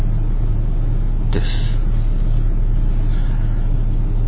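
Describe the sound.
Steady low rumble of idling cars in a fairly large convenience store parking lot along a main road near a busy district, heard from inside a car, with a brief sharp knock partway through and a short spoken word at the start.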